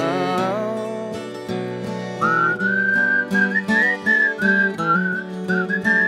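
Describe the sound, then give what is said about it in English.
A person whistles a bright, steady melody over a sustained instrumental backing, the clear high notes gliding between pitches in a lively, continuous tune. “It's better to whistle than whine, old man with a sorrowful brow.”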